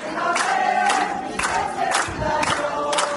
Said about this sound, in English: Then there were angry scenes as that defrocked priest fled one night, protected by Israeli police. Armenians yelling out, "Traitor!"